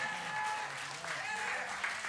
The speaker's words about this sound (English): Now, you may not like what I said, but at least clap because it is in the word. Amen.